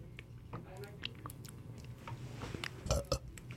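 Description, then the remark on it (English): A short, gravelly burp lands close to the microphone near the end, preceded by soft mouth and chewing-like noises and faint background voices. “I wish I could burp on command. I'd love to burp into the mic.”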